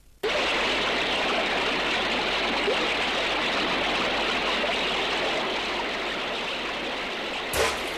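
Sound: flowing river water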